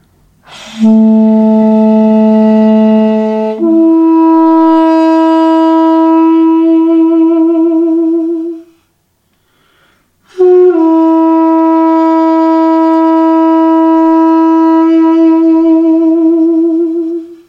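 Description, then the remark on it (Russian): A solo duduk plays long, mournful held notes, stepping up in pitch, then falls silent briefly before sustaining another long reedy tone. No voices are heard. “дудук играет сопровождение второго дудука. Ну, у нас сегодня получило. У нас будет соло.”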